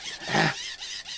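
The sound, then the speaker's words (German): A short, harsh mechanical squeal rises and fades within about half a second, followed by a steady high-pitched whine and hiss, as a hand-crank charger is wound by hand to recharge it. “So ein Kreischen.”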